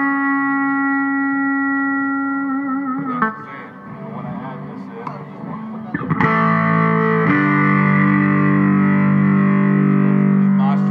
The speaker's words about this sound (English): It's pretty monstrous sounding pedal with obviously great sustain.